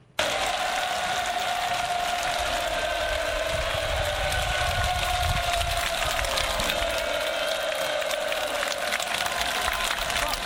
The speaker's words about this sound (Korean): 그 옆에서 이제 굉장히 크게 환호하는 평양 시민에게 왜 그렇게 소리를 지르냐라고 물으니까 글쎄 캄캄해서 잘 안 보인다 이런 얘기를 들었거든요. 이게 예. 함성 소리 때문에 잘 들릴 수 있는지 모르겠지만 현장에서 직접 녹음한 음성입니다.